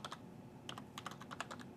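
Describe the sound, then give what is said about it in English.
Quick, irregular keystrokes clatter on a computer keyboard as SQL database login credentials are typed in, short sharp clicks in small bursts, fairly quiet, with no voices. “Uh-oh, I'm typing.”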